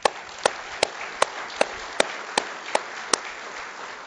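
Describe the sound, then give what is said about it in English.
An audience at a church service gives the Lord a round of applause, a dense wash of clapping with sharper claps punching through in an even, steady rhythm, about nine beats over a few seconds. No one speaks. “I want to give the Lord a round of applause.”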